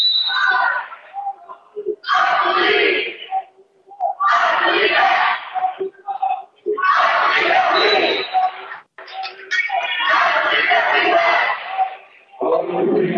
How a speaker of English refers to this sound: And this student section is getting a little rowdy now.